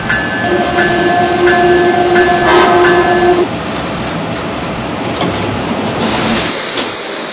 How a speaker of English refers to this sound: Attention, please. Now arriving from New York Penn Station on track number 3, Amtrak Northeast Direct Train number 189.